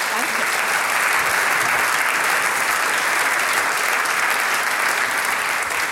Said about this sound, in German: Liebe Damen und Herren, ich darf um einen großen Applaus für die Gruppe … bitten.